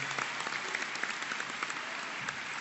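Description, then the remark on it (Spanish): Sustained applause from an audience at a forum for Pablo González Casanova, a dense, steady patter of many hands clapping at an even level throughout, with no talking over it. “Pero un fuerte aplauso, compañeros, para don Pablo González Casanova.”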